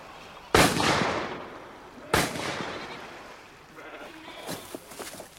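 Two loud gunshots from a man shooting wild goats ring out about a second and a half apart, each leaving a long rolling echo, followed by quieter scattered rustling and faint sharp clicks.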